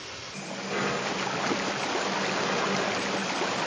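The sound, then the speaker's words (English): A heavy, steady rush of water pouring from a swung-over spout into the metal tank of a locomotive tender, swelling in over the first second and then holding a constant, loud gush with no voices. “Make sure there's plenty of wood and water in the tender. Swing that spout over.”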